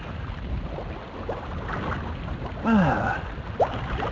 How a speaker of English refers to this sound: First bit a bit tricky here because there's leaves that are breaking down and they're making methane and shit, whatever it is. There you go, you can hear that shit bubbling away. It stinks. I believe it's toxic.